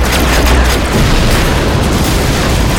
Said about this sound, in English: The bolts raked the other end of the wall, exploding cannon after cannon. Prayers answered. I flicked another fire starter at the cannon